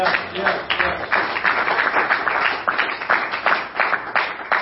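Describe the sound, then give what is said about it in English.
A crowd claps steadily for several seconds, a dense, loud patter of many hands with no clear individual beats, and the sound holds at an even level throughout. “Can you clap your hands?”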